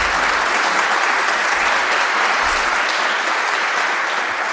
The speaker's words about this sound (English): If you could please give a round of applause for Mr. Hamimi.